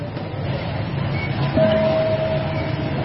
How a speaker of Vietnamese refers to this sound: Xin tất cả quý vị ngồi thật yên lặng khi nghe tôi thực hiện chuông.